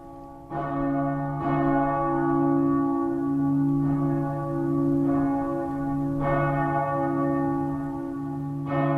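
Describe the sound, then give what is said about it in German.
The executioner's bell, also called the poor sinners' bell, of Bern Minster in Bern tolls slowly and steadily, each deep strike blooming into a long, humming resonance that overlaps the next. No voices, just the bell ringing out. “Die armen Sünder- oder Henkersglocken im Berner Münster.”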